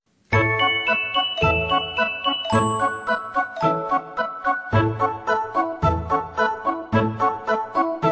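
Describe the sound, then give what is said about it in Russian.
Bright sleigh bells on a running horse pulling a sleigh jingle steadily in a repeating rhythmic pattern, shaken in regular bursts like a trotting horse, loud with no voices. “Лошадка бежит, копытами стучит, колокольчиком звенит.”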